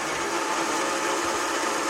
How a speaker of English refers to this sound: Go ahead and run the blender.